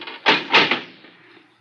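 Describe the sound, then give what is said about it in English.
A heavy door is hauled open with a couple of loud, scraping thuds, the rumble fading out into quiet afterward. “This thing gets heavier every week. Door's not that heavy”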